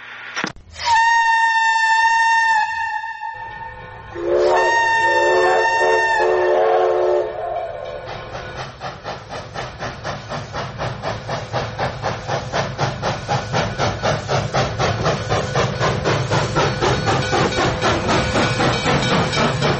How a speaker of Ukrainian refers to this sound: показали сигнальну трубу, завдяки якій ваш батько, як я розумію, відправляв поїзди